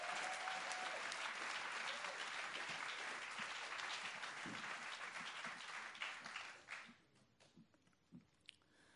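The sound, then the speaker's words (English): Steady, dense applause from an audience at a summer-evening poetry reading in Ledbury, welcoming the first poet, keeps going at full strength for about six seconds, then thins out into a few scattered claps before stopping. “First poet, a round of applause,”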